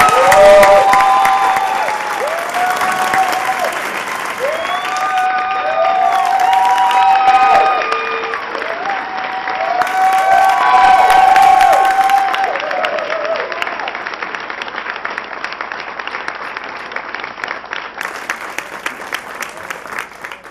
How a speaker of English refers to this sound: Mayor, can we suspend the rules and applaud that proclamation?